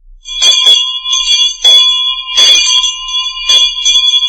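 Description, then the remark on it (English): A bell rings insistently in a rapid, continuous clatter, loud, with sustained metallic overtones ringing steadily throughout and no voices; it introduces General Electric's Ring the Bell contest in a radio advertisement. “General Electric rings the bell with a wonderful contest for you.”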